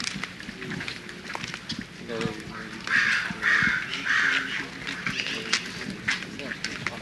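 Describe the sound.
Crows caw in a quick series of three harsh, raspy calls midway through, fairly loud, over a noisy outdoor background with people talking.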